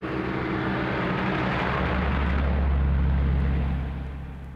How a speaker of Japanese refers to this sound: あ、車が通るよ。